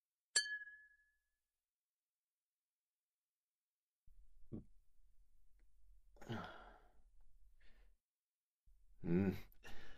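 Whisky glasses clink once in a toast to a happy meeting, bright, the ring fading within a second; afterward come soft breaths, a sigh and a quiet gasp with no speech.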